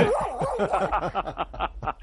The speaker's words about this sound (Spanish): ese ladrido que habéis buscado no se corresponde con el de Piper